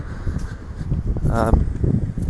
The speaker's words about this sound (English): Jeez, it's actually quite windy. Windier than I expected.